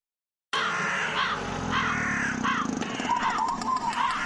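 Several crows caw repeatedly in harsh, overlapping, loud calls over a steady background hum with no one speaking, in an advert for the premiere of the play Godine vrana at the National Theatre in Belgrade.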